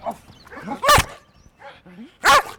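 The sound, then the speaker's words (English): A Belgian Malinois dog named Rex, a drug-detection working dog, gives two loud, sharp barks about a second and a half apart, with quiet background murmuring and faint voices in between. “His name is Rex, and he's a Belgian Malinois.”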